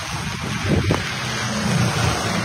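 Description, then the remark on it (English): Rain falls outdoors, filmed on camera, as a steady, dense hiss that holds evenly for a couple of seconds, with a low rumbling undertone like wind buffeting the microphone. No one speaks. “So he turned the camera to show the rain.”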